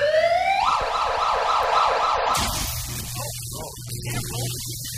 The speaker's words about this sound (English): I think it's actually illegal to run a siren sound on the radio